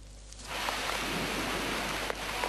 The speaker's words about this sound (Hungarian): Szó szerint szakad az eső Pekingben. Annyi esik, hogy a még el nem árasztott utakon is bokáig érő vízben gázolnak az emberek az araszoló autók között.